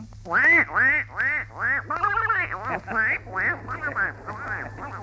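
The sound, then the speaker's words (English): A voice imitates a duck, a rapid series of about nine nasal quacks, fairly loud, with a steady low hum underneath. “All right, here's your duck.”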